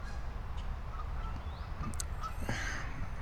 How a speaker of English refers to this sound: Hey, what kind of bird is that?